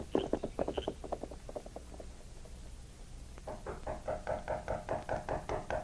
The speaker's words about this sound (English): Knocking on the door finally wakened Jim.